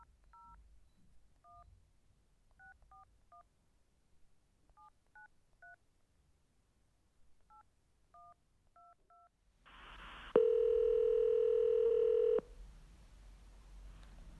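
A touch-tone telephone dials a US number for a telephone service that plays poems: a dozen or so short, clean keypad beeps in uneven bursts, followed by a louder steady electronic tone lasting about two seconds, then quiet line hiss.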